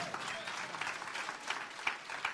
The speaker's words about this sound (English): If you're gonna clap, clap. Если вы хотите хлопать ладоши, пожалуйста, хлопайте.